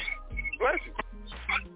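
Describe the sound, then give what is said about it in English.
A couple of quick sneezes: short, sharp bursts of breath and voice with a brief pause between them, over a low steady background hum. “Bless you.”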